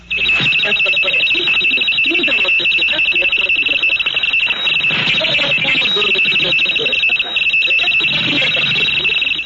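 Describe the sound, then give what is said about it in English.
Radio teletype interference from a high-speed mechanical sender: a steady, loud high-pitched warbling tone chatters in rapid coded pulses, constant throughout, with a faint voice murmuring underneath. “This is a high-speed mechanical sender transmitting a series of coded pulses.”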